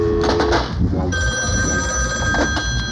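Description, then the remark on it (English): A telephone bell rings steadily and loudly, a bright metallic trill that settles into a sustained ring over a low, rumbling background, with no one speaking. “Excuse me, my other phone is ringing.”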